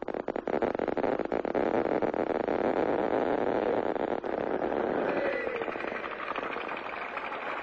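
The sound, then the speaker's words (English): Applause from a crowd at a 1963 groundbreaking for new plutonium reactors at Hanford, attended by President John F. Kennedy: a dense, steady crackle of many hands clapping, loud and continuous throughout and easing off slightly toward the end, with no voices standing out. “Hear that applause back in 1963?”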